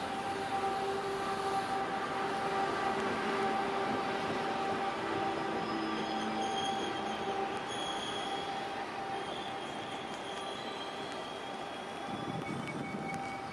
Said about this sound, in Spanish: Enseguida frente a ti se estaciona flamante una larga composición de limpios coches de color crema, marrón y naranja, que resoplan con frecuencia mientras se abren sus puertas.